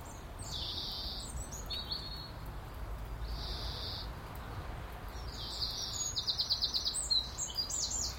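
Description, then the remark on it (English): Shrill, high-pitched bird calls repeat in sustained bursts, ending in a rapid series of sharp piping notes, heard outdoors over a low rumble of background noise, with no one speaking. “It's piercing, that call, that bird song.”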